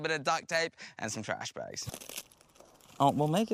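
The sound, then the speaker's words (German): Plastic bags crinkle and tape tears in a brief, scratchy burst of rustling as rubber boots are made from plastic bags and tape, set between stretches of people talking. “Aber wir basteln uns einfach Gummistiefel aus Plastiktüten und Klebeband.”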